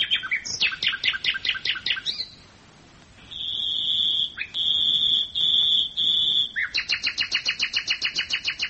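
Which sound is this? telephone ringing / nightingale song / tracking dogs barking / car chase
nightingale song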